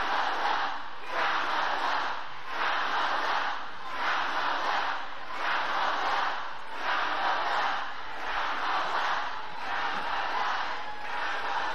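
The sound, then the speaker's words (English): A large crowd at a Kamala Harris speech roars and chants loudly in a steady, pulsing rhythm, trying to shout down protesters, the shouting swelling about once a second. No individual speech stands out. “Now the crowd tries to shout down the protesters, and Harris is smiling.”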